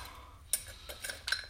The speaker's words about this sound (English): All right. Silverware.